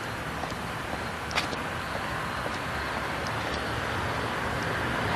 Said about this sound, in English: Figures. Car. Right at the intersection where I need a car not to be. Ah, the dulcet tones of a diesel engine.